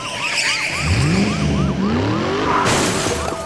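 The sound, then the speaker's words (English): A truck roars and skids on a bridge with squealing, wavering tires over a rumbling engine as a deputy's vehicle rams into its side, then a sudden loud crunching impact near the end; loud, no voices. “Somewhere about midway across, one of the deputies came ramming into the side of his truck.”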